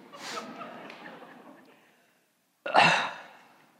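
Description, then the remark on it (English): Two loud, breathy, amplified nose blows: a long hissing blast that trails off over about two seconds, then after a short silence a second sharp, forceful blow. No one speaks. “sorry, amplified nose blowing.”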